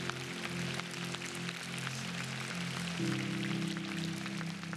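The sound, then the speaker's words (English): A church audience claps steadily for people who gave their life to Jesus for the first time, a dense crackle of many hands that keeps going throughout, over held low keyboard chords that shift partway through. “Can we clap for people who gave their life to Jesus for the very first time today?”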